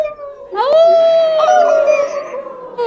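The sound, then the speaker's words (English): Human voices imitate wolf howls over a Zoom call: a long, sustained rising-then-steady tonal wail with rich harmonics, loud, lasting a couple of seconds with other howling voices layered briefly on top. “Do I hear any wolves out there in the wilderness?”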